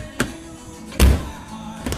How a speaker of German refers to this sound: Ah, dieser Kühlschrank. Kennt ihr dieses Geräusch noch?